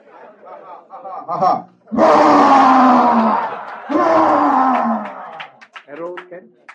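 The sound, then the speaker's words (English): A person imitates the roaring sound that came from a pillar crushed with a club: two loud, drawn-out, growling bellows in quick succession, with brief talking before and after and a hint of people reacting. “And at once a very roaring sound came from the pillar.”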